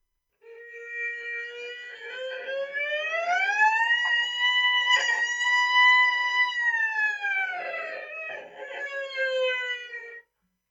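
A single long work siren sounding at noon climbs slowly in pitch, holds a steady, loud tone for several seconds, then sinks back down before cutting off after about ten seconds, with no voices over it.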